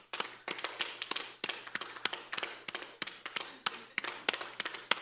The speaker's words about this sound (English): All right, and then you guys clap your hands with me like this. All right, you kind of get into that rhythm. Stop. Wait, don't look at me. You don't hear me. All right, let's clap faster.